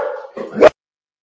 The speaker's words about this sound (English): I was just going to take over for you because I heard your dog had something to say there.